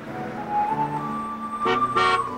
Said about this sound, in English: A blue car pulls up